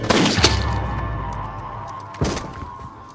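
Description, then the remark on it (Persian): A quick burst of loud gunshots cracks out at the start, then a lingering echoing rumble, followed by one more sharp shot a couple of seconds later. No one speaks. “لعنتی، یه نصیحت بهت میکنم شاه، باید به جای در و دیوار به دشمنت شلیک کنی.”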